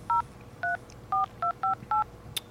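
telephone being dialed

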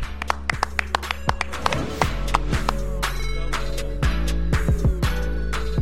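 hands clapping

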